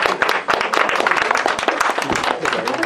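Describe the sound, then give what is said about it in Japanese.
An audience breaks into sustained applause of thanks for a teacher and an office manager at the close of a gathering, many hands clapping in a dense, continuous patter that stays fairly loud and steady throughout, with no single voice standing out. “じゃあ最後に先生に感謝の、また事務長さんの感謝の拍手をいたします。”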